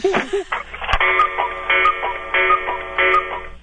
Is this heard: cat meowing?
no